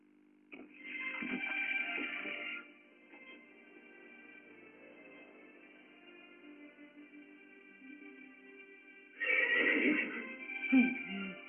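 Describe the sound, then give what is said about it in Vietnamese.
A stallion neighs loudly and shrilly, then again several seconds later, with a quieter, drawn-out whinnying sound lingering between the two calls. No one speaks. “Đây chẳng phải là con ngựa của nhà mình sao?”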